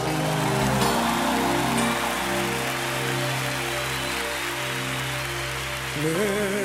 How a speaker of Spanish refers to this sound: Levántale con tu aplauso.